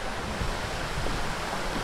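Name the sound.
waterfall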